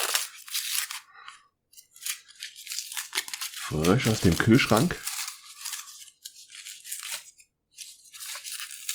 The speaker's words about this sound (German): Ja, wieder schön in Papier und Tape eingewickelt. Mal sehen, ob ich es jetzt in die Schnelle aufbekomme. Ja, obwohl doch, geht gut.